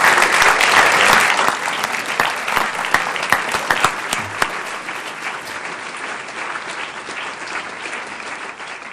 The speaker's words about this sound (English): So let's give all three teams a round of applause for being such great role models in our community.